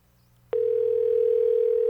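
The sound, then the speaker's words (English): A phone line ringing in the earpiece: a steady, fairly loud electronic tone that starts after a brief moment of quiet and holds unbroken to the end, with no one picking up. “Well, it's just ringing.”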